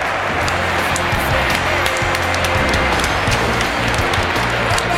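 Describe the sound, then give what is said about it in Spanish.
A dense wash of applause, many hands clapping steadily and fairly loudly for about five seconds, with a faint low hum running underneath. “Le damos un aplauso porque se animó a contestarnos.”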